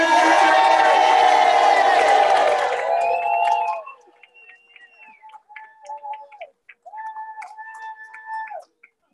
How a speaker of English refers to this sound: Let's give one big giant federation cheer. Let's hear it for everybody. One, two, three.